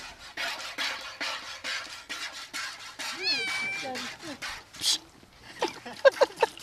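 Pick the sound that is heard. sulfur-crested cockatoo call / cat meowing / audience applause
cat meowing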